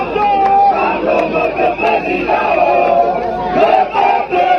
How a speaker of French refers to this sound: La foule n'a cessé de grossir devant le siège du MRC. Au fil des heures et sous un soleil de plomb, ils étaient plusieurs milliers à chanter à la gloire de leur leader.